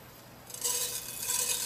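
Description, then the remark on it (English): Mustard seeds sizzling in about a tablespoon of hot olive oil while making a filling, a bright, hissing crackle that swells up after a quiet moment and keeps a steady, fizzy texture with faint pops throughout, no voices. “Once our mustard seed starts crackling, we'll go ahead and add our curry leaves in there.”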